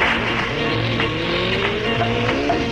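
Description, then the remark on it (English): A motorbike engine revs loudly, its pitch rising and falling as it pulls away, a steady roar filling the whole stretch with no talking. It is a Radio 1 producer setting off on his motorbike to collect road reports around Britain. “My producer, Johnny Beeling, around about this time every morning, he goes round on his motorbike all over Britain and brings back road reports. There he goes.”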